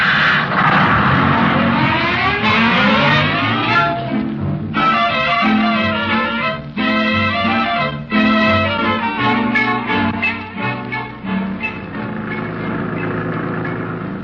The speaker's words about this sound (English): Hey, wait a minute. Driver, stop that bus.